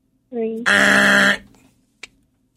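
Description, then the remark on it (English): A voice imitates a game-show buzzer: a short hummed lead-in, then a loud, harsh, nasal blare lasting under a second, followed by quiet and a brief click. “I got to get a buzzer.”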